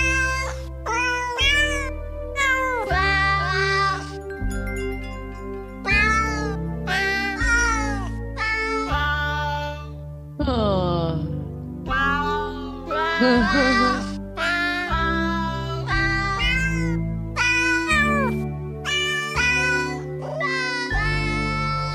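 Pitched cat meows are strung together into a bouncy holiday melody over a steady bass line, one yowl after another in a quick, rhythmic run that fills the whole tune, loud and up front.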